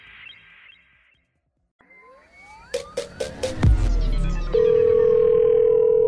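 Phone call tones: a short run of quick electronic beeps over rising whooshing sweeps, then a loud, steady tone that holds to the end. No one speaks.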